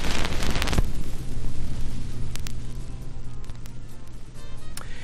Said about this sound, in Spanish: Se ve que nos gusta el sonido de la aguja sobre un viejo disco.